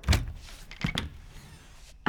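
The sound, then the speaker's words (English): A door is unlatched and opened: a solid thunk, then two quick clicks of the handle and latch, a soft rustling pause, and a final knock-like bump as it swings. “Could you please open the door?”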